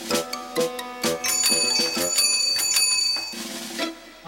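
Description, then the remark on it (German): A bicycle bell rings repeatedly in quick metallic dings, then a sustained shimmering trill of rapid strikes, ending with a few more separate rings; bright and clear, with no voices. “Eine Fahrradklingel?”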